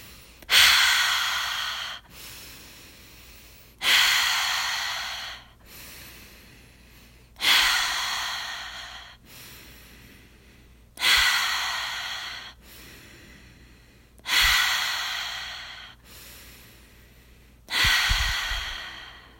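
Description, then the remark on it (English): Loud breathing in a steady rhythm during a guided breathing exercise: six forceful, airy breath bursts, one every few seconds, with brief quiet gaps between them and no talking. “Inhale, exhale, inhale, exhale, inhale, exhale, continue.”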